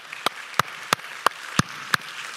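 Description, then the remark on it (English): An audience at Crossroads Christian Church claps in steady unison, six sharp, evenly spaced claps standing out above a soft, continuous wash of background crowd noise, celebrating 28 people who made a first-time gift to the church. “Would you clap for that?”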